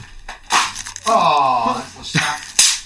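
A Christmas cracker is tugged with a rough crackling tear, then gives a sharp, loud snap near the end, with a drawn-out voice sounding in between.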